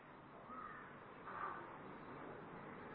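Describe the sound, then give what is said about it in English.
Crow-like caws, two brief calls about a second apart, over a steady soft outdoor hiss with no one talking. “Enjoy the birds singing.”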